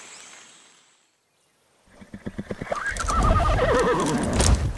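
A horse whinnies loudly, its neigh rising and wavering, as a run of quick hoofbeats clip-clops beneath it after a brief quiet opening.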